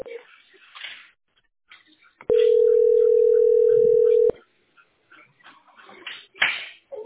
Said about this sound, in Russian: Слушать гудки. Слушать гудки. Быстро дозвоните.